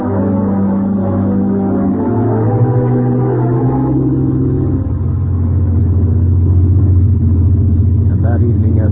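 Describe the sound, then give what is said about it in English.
A heavy truck loaded with huge crates of machinery drones steadily at cruising speed on the open road outside Central City, heading for California, a loud, continuous low rumble with a slight shift in pitch partway through, as if changing gear. “Reached the open road outside Central City, highballing for California.”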